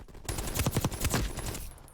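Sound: video game gunfire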